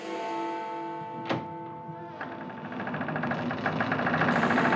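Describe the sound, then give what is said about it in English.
A deep bell tolls with a few heavy strikes, its resonant overtones ringing on and overlapping while a low rumbling hum builds steadily underneath. No one speaks. “It's time for wrap-up, so that means you hear that sound. The bell tolls for who?”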